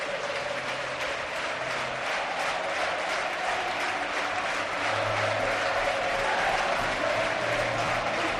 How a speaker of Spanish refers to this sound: Devuelve los aplausos el Racing a la zona de la gradona, aunque lo hacen extensible a todo el campo. Ve a los jugadores que aplauden a todo el graderío,